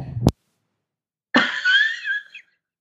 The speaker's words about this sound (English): Yeah. Apologize. I have a little cough here.